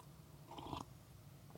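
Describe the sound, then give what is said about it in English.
A short, quiet slurping sip of hot coffee, followed by a soft swallow and faint mouth sounds, with no talking. “Excuse me while I sip some coffee.”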